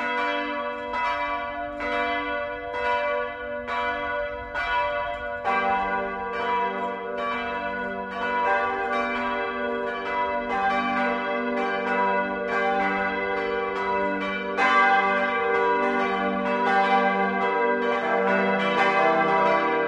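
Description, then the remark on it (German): Church bells in Röslau in the Fichtelgebirge, Germany, ring steadily and loudly for the Sunday 12 o'clock noon ringing, their overlapping strikes forming a rich, continuous peal that thickens as more bells join in, with no voices present. “Bayern 1 präsentiert das sonntägliche 12 Uhr Läuten.”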